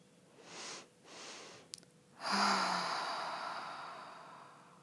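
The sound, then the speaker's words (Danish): As a slow breathing exercise, two quick breaths are drawn in through the nose one after the other, then a long, airy exhale slowly trails off, with no talking. “Du kan eventuelt tage to indåndinger i træk, inden du puster ud.”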